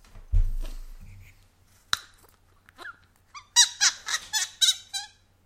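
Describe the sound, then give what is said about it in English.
A low thump and a sharp click, then a run of short, bright squeaks in quick succession as a cork is worked out of a Strath Isle whisky bottle, fairly loud. “Squeaky.”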